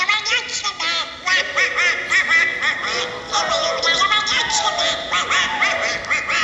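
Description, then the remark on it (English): The squawky, quacking voice of Disney's cartoon duck Donald Duck jabbers continuously for several seconds, loud, with a nasal, garbled speech-like rhythm and no other sounds. “Donald Duck, you know that, Disney character, whatever.”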